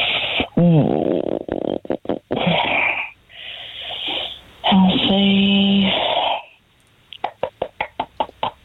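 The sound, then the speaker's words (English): In a kitchen, voices talk, then a quick run of about nine sharp, evenly spaced knocks rattles out as a person knocks, rhythmic like a woodpecker tapping on wood. “That's me knocking my brain into gear.”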